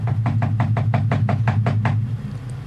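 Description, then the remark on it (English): A rapid, steady run of about ten knocks on a door, evenly spaced over two seconds, over a constant low hum that continues after the knocking stops. “I wonder why she's not ringing the doorbell.”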